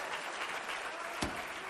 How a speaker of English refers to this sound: Clap your hands to him and give him a little bit of praise tonight.